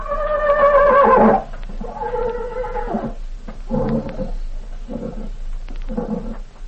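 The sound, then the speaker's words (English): A horse named Tarzan whinnies loudly, a long wavering neigh followed by four shorter, choppy bursts of neighing at a steady rhythm, with no talking. “Tarzan always was a smart horse.”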